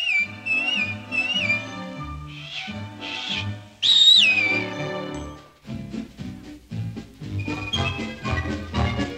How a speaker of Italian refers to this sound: Quando c'è una grana e tu non sai che cosa far, fai una fischiatina, fa una fischiatina.